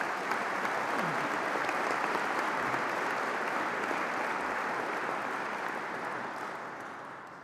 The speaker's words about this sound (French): Il ne reste plus qu'un candidat à présenter et que vous voudrez bien applaudir.